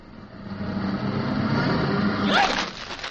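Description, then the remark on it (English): A vehicle engine rumbles steadily as an ambulance backs up and runs over someone, its low drone building slightly, then swelling into a louder, hissing surge near the end. “you backed the ambulance right over Clem”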